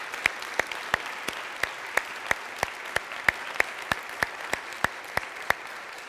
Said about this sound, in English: They have taken them into their own hands, and we just want to give them a round of applause of thanks for what they do.